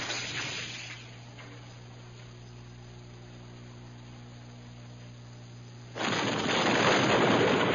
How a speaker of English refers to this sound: Before either Corrin or Ganner could offer a new plan for escape, an explosion outside shook the giant shell building.